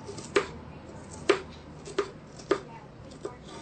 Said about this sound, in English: And so my next ingredient is I've got some red onion chopped here. And I'm going to just slice up a little bit more to show you just how it's done. So I just make little strips with the onion and dice it up finely.